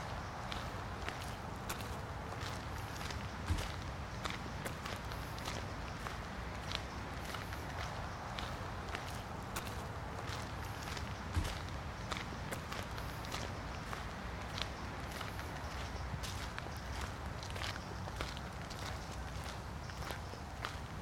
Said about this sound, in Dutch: Ze lopen rechtdoor, het brede pad.